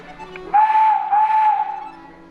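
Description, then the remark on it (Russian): A handmade whistle is blown while being tested in one loud, breathy tone lasting about a second, with a brief dip partway through and only slight wavering in pitch; the pitch changes as a part of the whistle is raised or lowered. No one speaks. “В зависимости от того, поднимаете вы или опускаете вот эту вот часть свистка, звук у вас может меняться.”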